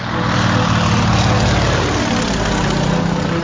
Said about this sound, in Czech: motorový žlutý dolnoplošník vyvinuli společně lety Kunovice a Moravan Otrokovice. Šlo o první československý zemědělský letoun určený k práškování a postřiku, ale naše uplatnění i v řadě dalších oblastí a objevil se v několika filmech.